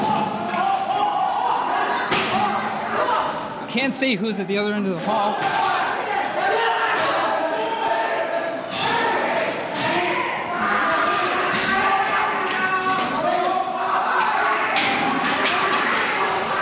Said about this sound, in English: The march up the stairs is being led by a guy with a pink chair. Several people now carrying chairs, sticks. One guy has a shovel. Chairs being thrown around.